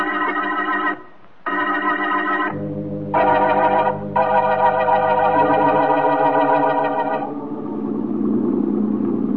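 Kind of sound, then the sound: vehicle, boat engine running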